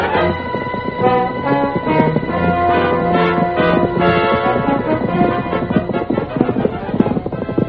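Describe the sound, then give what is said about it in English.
Horse hooves gallop steadily beneath a loud, continuous orchestral score, the rhythmic clip-clop partly buried in the music throughout, with a muffled, narrow-band quality like an old radio recording. “Get your horse and ride with me.”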